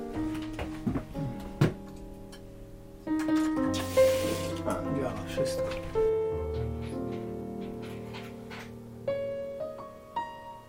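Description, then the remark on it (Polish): A tap in a cottage built in 1937 is turned on to check the water for a brief hissing gush of running water, lasting under a second, set among steady tonal humming and background sounds. “Jeszcze sprawdzę, jak woda. Czy się nic nie popsuło.”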